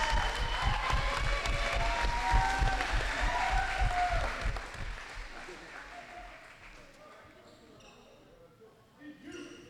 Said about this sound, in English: And one more round of applause for all of our seniors here tonight.